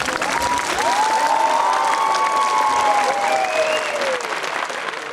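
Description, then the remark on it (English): A crowd at Burma's first ever international literary festival bursts into sustained, loud applause, with whoops and rising cheers threading through the dense clapping for several seconds. “It's rare to hear quite such an excitable reaction from a crowd at a literary festival.”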